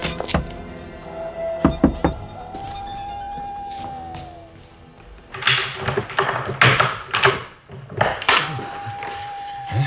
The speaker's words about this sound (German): Eine halbe Stunde später klopfte Justus an die Tür von MacAndersons Haus.